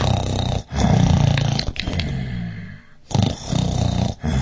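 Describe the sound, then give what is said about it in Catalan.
Loud, deep rumbling snores of a giant asleep in a castle, heavy, in a few long gravelly breaths with short gaps between them, almost roar-like in their rasp. No talking. “I feia uns roncs que tot el castell tremolava.”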